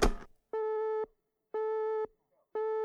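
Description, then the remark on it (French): A telephone busy tone: three steady, evenly spaced beeps, each about half a second long with equal pauses, clear and fairly loud after a brief click at the start. “S'écria le président en raccrochant le téléphone rouge et en décrochant celui de porcelaine qui le reliait directement à la présidence de la République populaire de Chine, à Pékin.”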